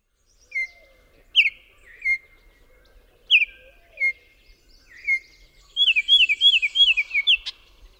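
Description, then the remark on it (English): Oriole song, from a bird that nests in trees near water: clear, whistled notes in short separate phrases, then a quick rising run of bright chirps near the end, sung fairly loud with no talking. “If you guessed two warblers and an oriole, you're right.”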